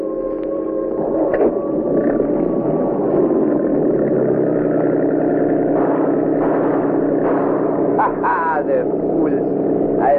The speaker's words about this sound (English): Listen, Professor. I hear it. Must be police boats.